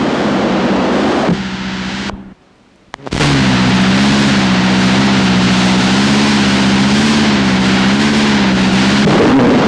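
A car engine runs loudly with a steady low drone and broad roar, briefly dropping out for about a second before resuming its continuous hum.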